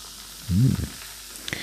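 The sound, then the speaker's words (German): A fizzy drink is poured into a glass: a brief, low gurgling glug over a steady, soft carbonated hiss that continues afterward, with a couple of faint ticks near the end. “So, ich gieße das hier mal.”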